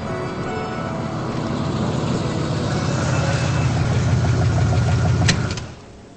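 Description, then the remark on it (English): An old Pontiac car engine idles with a steady low rumble and faint rhythmic ticking, swelling slightly before cutting off abruptly near the end as the car is pulled to a stop on a rain-soaked city street, leaving only quiet background. “He pulls the old Pontiac to a stop.”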